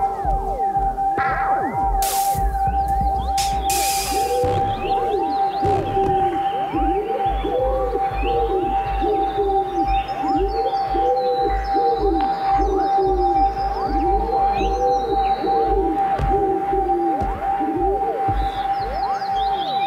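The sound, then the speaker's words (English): A wood pigeon's soft, hollow cooing song repeats in rhythmic phrases against a constant background hum, steady throughout. “Wood pigeon, Columba Columbus, song.”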